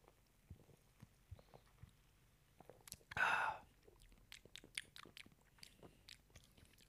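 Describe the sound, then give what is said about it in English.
A single brief slurping sip from a very dark pint of sweet dessert beer rises mid-clip, surrounded by quiet mouth clicks and lip smacks. “I notice when you sip it, when you first bring it to your mouth, you get like a blueberry.”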